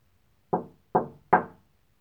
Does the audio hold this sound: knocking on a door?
yes